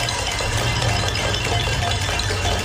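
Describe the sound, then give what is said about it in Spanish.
A pot-banging protest (cacerolada) in Valencia: many metal pots and pans struck at once, forming a dense, continuous metallic clatter that stays loud and steady throughout, with no clear voices. “Y las caceroladas en Valencia.”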